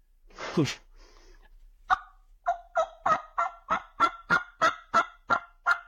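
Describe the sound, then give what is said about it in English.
A hen turkey yelp sequence played on a turkey call as a locator call: about eleven loud, evenly spaced yelps in a steady rhythm, preceded by a brief scratchy rasp, with no talking. “if he's responding to a Yelp call, again, a Yelp call is just a locator. The hens will do it. Give us Yelp. Sequences of”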